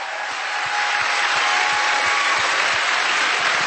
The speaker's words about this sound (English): And he's applauding.